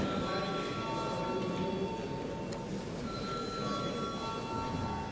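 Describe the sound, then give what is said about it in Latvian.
A parliament voting call bell rings without pause for about five seconds before a vote on a bill, a steady, loud, buzzing metallic tone with high ringing overtones, and no one speaks over it. “Lūdzu, zvanu.”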